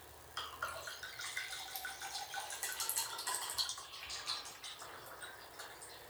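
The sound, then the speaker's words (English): Red wine being poured into glasses, a steady, bubbling trickle of liquid with small clinks and splashes, running for several seconds at a fairly soft level, with no one talking. “Well, I'm just going to spill a little, because you got to get that cap down. And I got some glasses.”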